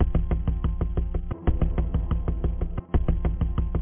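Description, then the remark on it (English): A man pounding rapidly and heavily on a side door, a steady barrage of loud, booming knocks with only two brief pauses. The thuds sound forceful, with no voices. “My stepfather was away in the living room watching some old Western movie, and suddenly, we heard someone pounding on the side door.”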